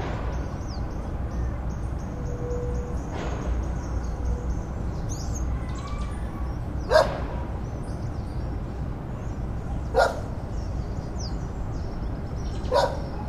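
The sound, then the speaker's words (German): Dogs bark, a few sharp single barks spaced a few seconds apart over a steady outdoor hum with faint birdsong, and no one speaking. “Apropos, das Bellen wirkt jetzt eh etwas künstlich.”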